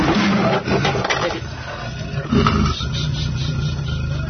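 A caged leopard snarls and growls harshly, with loud rattling thumps as it lunges against metal bars, a second heavy burst about midway, then a rough, steady rumble.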